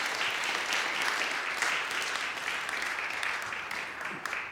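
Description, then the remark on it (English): An audience claps steadily in sustained, dense applause for volunteers as they go back, a bright crackle of many hands at even loudness, with no voices rising above it, ending with a few scattered claps. “And you'll get a round of applause to the congregation as you go back.”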